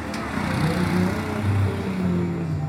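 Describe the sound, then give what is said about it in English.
A steady low engine rumble of cars and ATVs chugging along roads next to beach bars in Puerto Viejo, with pitch rising and falling slightly as motors rev, continuous throughout and fairly loud. “In Puerto Viejo, cars and ATVs chug along roads next to beach bars.”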